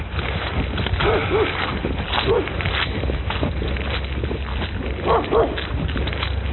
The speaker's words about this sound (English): beware of the dog. He wants to play. Yeah, I know. It's like, come on, play.